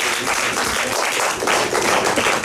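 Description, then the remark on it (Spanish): A crowd applauds steadily, many hands clapping in a dense, crackling wash that holds an even, fairly loud level for a couple of seconds with no voices over it. “¡Un aplauso!”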